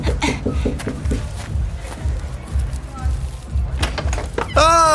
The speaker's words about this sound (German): Keine Ahnung, aber ich klopf mal an.